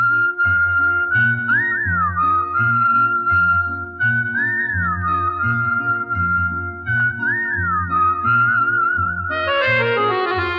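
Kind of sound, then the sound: whistling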